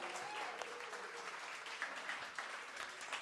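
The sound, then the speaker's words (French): A church audience applauds Mathieu and Nicole, who sent their greetings. A steady wash of many clapping hands at moderate volume, with occasional sharper claps standing out, holds evenly for about three seconds with no voices over it. “Vous voulez les applaudir, applaudissez-les.”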